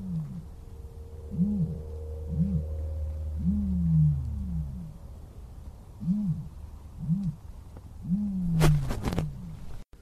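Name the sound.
ostrich call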